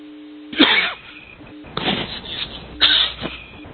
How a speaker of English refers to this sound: And having a coughing fit at the same time.